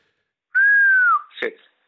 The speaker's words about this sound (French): T'as entendu mon siffler ? Oui, oui, ouais. Je me disais que tu siffles tellement bien.